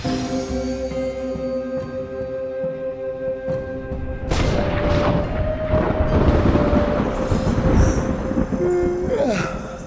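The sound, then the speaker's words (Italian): A steady humming drone is broken partway through by a sudden loud crack of thunder under a clear sky, rolling into a long, heavy, low rumble lasting until the end. “Caspita, che tuono! Però è sereno, eh?”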